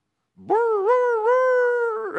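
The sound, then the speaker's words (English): A person imitates a hound dog's howl: one drawn-out, wavering note that swoops up, holds steady for about two seconds, then trails off. The voice is fairly loud, with no other sounds. “That's the best hound dog I got, okay?”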